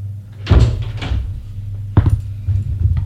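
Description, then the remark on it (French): A heavy apartment building door opens with a loud metallic clunk, followed a moment later by a second sharp thud, over a steady low hum with no one speaking. “Et il ouvre la porte de son immeuble avec une clause.”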